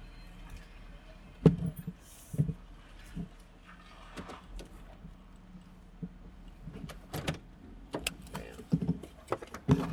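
A low, steady pickup truck engine rumble idles in the background while scattered clicks and knocks come through as the truck slowly backs up toward another car. No one speaks.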